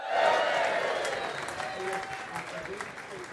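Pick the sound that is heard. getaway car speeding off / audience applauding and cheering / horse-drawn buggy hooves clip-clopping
audience applauding and cheering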